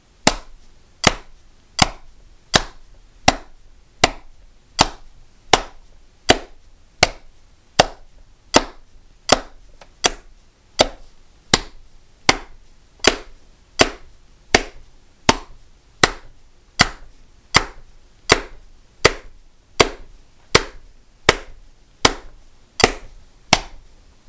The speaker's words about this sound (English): This is at 80 right here. So see if you can hide the sound of, you know, my clapping and the metronome. One, two, three, go.